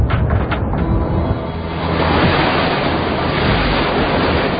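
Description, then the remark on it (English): Loud surf roars continuously as ocean waves crash and wash against the Great Barrier Reef off Australia, with a sharp burst of spray at the start and a steady rushing wash throughout, no voices present. “It's Australia's first line of defense against the rages of the ocean, protecting not just the reef, but an entire continent.”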